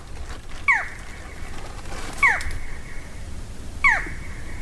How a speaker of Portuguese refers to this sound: Rapaz, é bonito aí. Falcão caburé. Lindão demais.